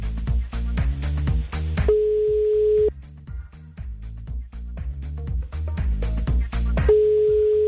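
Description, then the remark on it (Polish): A steady telephone ringing tone as a call is being placed, sounding twice, each about a second long with a pause of several seconds between, clear over loud rhythmic music playing underneath. “Jest sygnał, to już dobry znak.”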